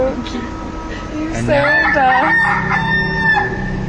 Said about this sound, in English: That was not a chicken, that was the man's television.